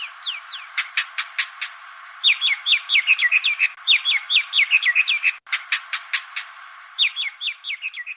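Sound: indian myna calls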